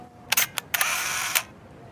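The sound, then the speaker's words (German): A camera shutter fires as a photo of a puddle is taken: a few sharp, bright clicks followed by a brief mechanical whirring rush that ends in a final click, heard on its own at low volume. “Dieses Foto wird Luisa gefallen.”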